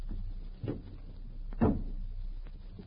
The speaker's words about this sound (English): Close the door softly.